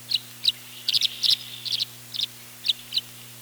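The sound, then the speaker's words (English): Tree swallow calls: a series of bright, liquid chirps, some doubled or trilled, repeating irregularly about three times a second over a faint steady low hum, with no voices. “Behind the robins by a week or two comes my favorite sign of spring, the tree swallow.”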